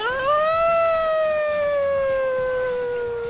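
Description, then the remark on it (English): Elizabeth Taylor lets out one long, loud howl of 'no' imitating a siren, answering a question about a rumor she was marrying for the ninth time; a sustained wail whose pitch rises briefly then slowly sinks, with no other sounds. “Now I'm going to howl.”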